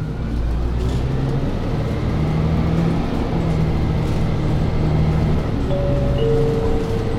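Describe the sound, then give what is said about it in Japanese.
A Toei city bus bound for Kameido Station pulls away from a stop, its engine a steady low rumble with a rising tonal whine as it accelerates, loud, heard from inside the bus, with no talking. “発車します。お捕まりください。 発車します。”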